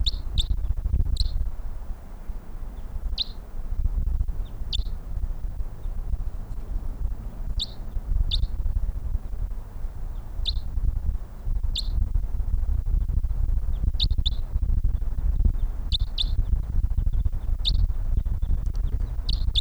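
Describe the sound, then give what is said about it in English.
Distant bird calls: short, high chirps repeating irregularly, singly and in quick pairs, over a steady low rumble throughout, with no voices. “A bird in the distance.”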